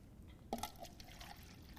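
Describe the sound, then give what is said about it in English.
Liquid pours into a container with a brief splashy onset, then a steady, soft trickling wash that continues for a couple of seconds, quiet, with no talking. “Okay, let's keep pouring it.”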